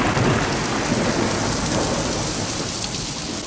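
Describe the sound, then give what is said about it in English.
Heavy rain pours down in a steady, dense roar, with low rumbling thunder rolling underneath throughout. Loud, with no voices. “Do you remember that heavy rainfall?”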